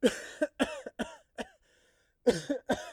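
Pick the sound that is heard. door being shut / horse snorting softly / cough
cough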